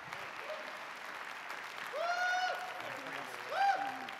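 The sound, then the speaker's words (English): An audience applauds steadily for about four seconds to welcome a guest arriving for the evening, a dense wash of clapping, with two brief high cheers or whistles rising above it near the middle and again toward the end. “So would you give a warm welcome”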